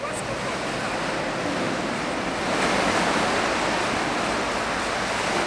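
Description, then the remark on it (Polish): Continuous swimming pool ambience at a pool in Suwałki, Poland, at dawn: a steady, dense wash of splashing water filling the space, fairly loud and unbroken for the whole stretch, with no voices standing out. “Spotykamy się na basenie w Suwałkach, bladym świtem dla wielu”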